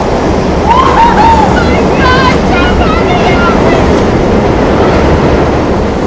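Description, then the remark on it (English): A train pulls out of a station, rumbling loudly and steadily, with a few high, wavering metallic squeals rising over the roar early on before it settles into a continuous rushing clatter. “The train pulls out, leaving the distraught mother in tears.”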